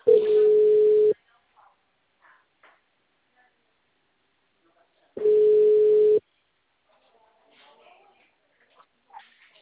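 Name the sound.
telephone ringing tone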